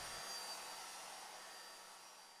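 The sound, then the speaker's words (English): A hair dryer runs on high, a steady, loud rush of blowing air with a faint whine above it, continuous for the whole clip and slowly easing slightly toward the end. “She realized that her bird was gasping for air as well as shivering, so she reached for her hairdryer, put it on high, and blasted him with hot air.”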